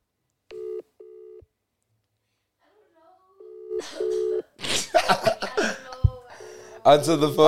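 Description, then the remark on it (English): A phone call to a female friend being placed again: two short, steady electronic tones, a pause, then another ringing tone before voices begin talking, with a beep sounding again beneath the conversation. “Call again.”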